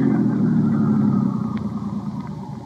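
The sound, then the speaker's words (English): A car engine idles steadily, a continuous low rumble with a slight uneven throb, no voices over it. “Just leave the engine running and both of you get out the right-hand door.”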